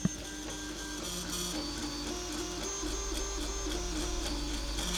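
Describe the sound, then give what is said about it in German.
A 3D printer runs steadily while printing an Easter egg, its stepper motors whining and buzzing in shifting tonal patterns with faint rhythmic clicks, no one talking. “Wie sich das anhört, so ein 3D-Drucker.”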